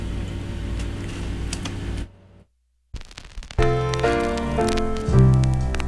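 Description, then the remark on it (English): Soft, steady surface crackle and ticking like a vinyl record, a brief near-silent pause, then more crackle as warm music with sustained tones starts playing. “And we're going to play some tribute to her on vinyl to thank her for all of her years.”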